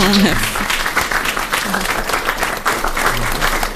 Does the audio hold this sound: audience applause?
yes